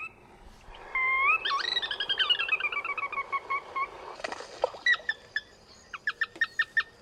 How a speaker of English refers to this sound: I just brought some tape recordings. We don't want to disturb the birds, but I thought we would just play them so everyone can know what they're supposed to sound like. Soras call is sort of a high, descending, liquid screech.